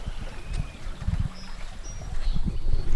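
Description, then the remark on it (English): Fast, clear water of Agency Creek rushes steadily over a weir for counting fish on a reservation 25 miles east of Lincoln City, a continuous wash with low churning surges, while faint birdsong chirps now and then above it. “25 miles east of Lincoln City, the waters of Agency Creek run fast and clear across a weir for counting fish on the reservation.”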